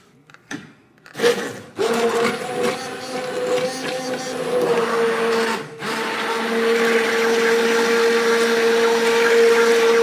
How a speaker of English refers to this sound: But where the immersion blender just goes in there. It just goes right into the pan.